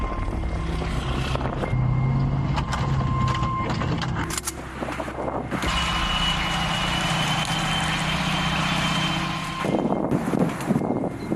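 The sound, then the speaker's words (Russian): A heavy military launcher vehicle drives past, its engine roaring loudly and steadily with deep rumbling and mechanical clatter, the tone shifting briefly midway. No one speaks. “Несмотря на свои высокие, большие габариты, машина очень высокопроходима, мобильна.”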